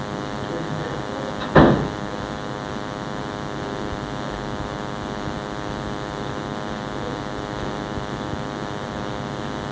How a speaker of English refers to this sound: One second, I'm going to close a door because it's getting a little noisy in the next room. Hang on a second.